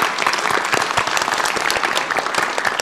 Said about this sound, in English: Well done. Round of applause.